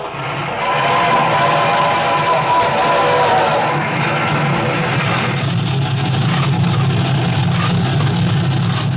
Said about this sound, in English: It's this one great engine, Tom. Look at that. 85 miles an hour and she isn't half out.